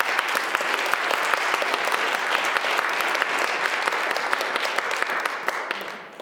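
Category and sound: crowd, audience applause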